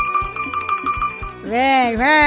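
A bell clangs in a quick, steady rhythm on a radio show, its bright metallic ring sustaining between strikes, then gives way to a loud swooping tone that rises and falls twice.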